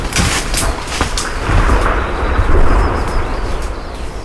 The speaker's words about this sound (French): Un claquement, un grincement, puis un effondrement d'une énorme branche dans la forêt survient.